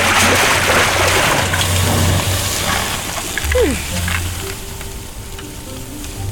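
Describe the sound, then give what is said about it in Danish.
A loud, continuous rush of water from a huge bucket pouring and splashing down onto someone's head, a broad hissing wash that fills the whole stretch and eases slightly toward the end. “Loftet over jer åbner sig, og nu kommer der en kæmpe spand vand lige ned i hovedet på helten.”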